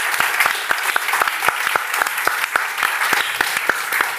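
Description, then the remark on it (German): A crowd applauds the kitchen team and service team of the Culinario: dense overlapping handclaps with sharp individual slaps standing out in an irregular rhythm, sustained at an even, fairly loud level throughout, with no voices. “erstmal einen riesen Applaus, würde ich sagen, bitte für das Küchenteam und für das Serviceteam da vom Culinario.”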